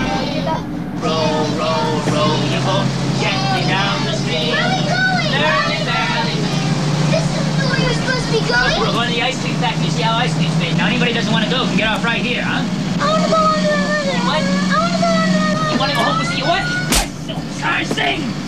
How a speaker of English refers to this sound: soon the bus joins the busy highway, where it drives steadily along in the inside lane. The bus enters a tunnel that has a colourful rainbow painted over its mouth.